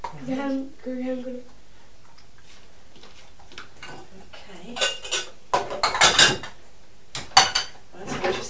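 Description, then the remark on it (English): Dishes and a tray are cleared away: a run of irregular clinks and clattering crockery bursts, louder toward the end, after a brief murmur of voice at the start. “Can you just put it there because I'm going to clear the tray away?”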